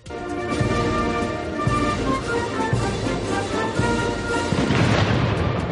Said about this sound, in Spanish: Pues hace solo unos minutos los reyes recibían tanto al emir como a su mujer en el Palacio Real, como puedes escuchar, con honores militares, cañonazos al aire incluidos.